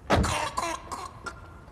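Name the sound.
whooping cough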